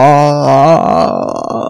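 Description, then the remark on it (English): A single eerie, drawn-out moan in a low voice holds a steady pitch, then wavers and breaks into a rough, breathy, groaning tail, loud and alone for under two seconds, said to come from a chicken coop shack near a lighthouse haunted by a murdered deputy's ghost. “Moans are heard coming from a nearby chicken coop shack owned by the deputy.”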